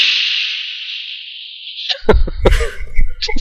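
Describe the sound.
A voice imitates a steaming hiss: a long, steady, breathy hiss lasting about two seconds and slowly fading, then several sharp, loud bursts of rustling and clattering noise.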